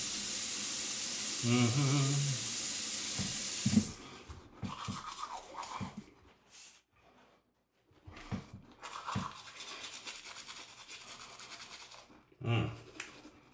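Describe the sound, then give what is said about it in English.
A toothbrush scrubs in quick, uneven back-and-forth strokes, its bristles rasping steadily after a loud broad hiss fades out in the opening seconds, with a brief pause partway through. “I'm going to brush my teeth first.”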